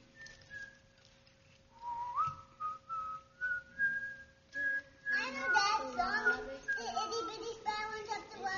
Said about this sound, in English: If I started to sing a song, if I started to whistle a song, let's see if you would know the words.